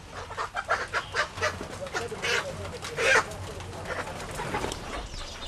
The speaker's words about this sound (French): Elles vont aller ces poules à l'abattoir. On va livrer ça au niveau de l'abattoir.